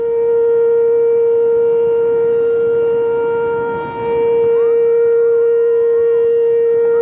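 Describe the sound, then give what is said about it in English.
A loud outdoor warning siren in Elizabethtown sounds a weather alert at 4 o'clock in the afternoon, wailing with a steady, sustained tone, dipping briefly before rising again, heard alone with no voices. “Did you hear those sirens go off in Elizabethtown at 4 o'clock yesterday afternoon?”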